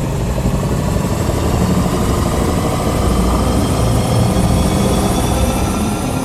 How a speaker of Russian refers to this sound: Машина ревела.